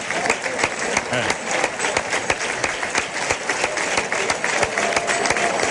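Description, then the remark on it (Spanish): A large crowd in a bullring applauds the bull during its lap of honour (vuelta al ruedo), a dense, continuous patter of many hands clapping at an even loudness throughout, with faint voices mixed in. “Bueno, los aplausos iniciales que están escuchando es para el toro, claro, la vuelta al ruedo.”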